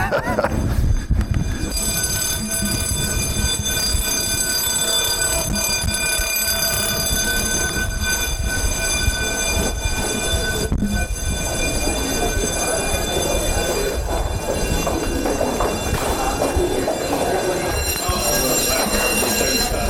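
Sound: building fire alarm ringing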